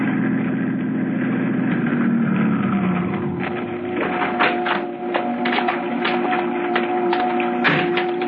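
car engine idling

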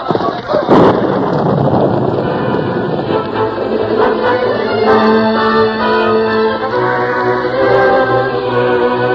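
thunderstorm with rolling thunder

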